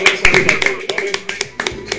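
A small audience applauds with scattered, irregular claps, sharp and fairly loud, over a steady faint tonal hum in the background.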